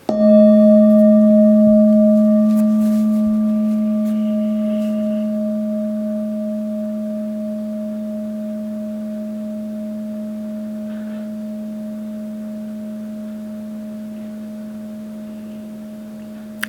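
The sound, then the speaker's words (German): A singing bowl is struck once to begin a meditation, its sharp onset blooming into a steady, pure hum of two sustained tones that slowly fade over many seconds, heard alone with no voices. “Die Meditation beginnt wie alle anderen Meditationen hier mit dem Klang meiner Klangschale.”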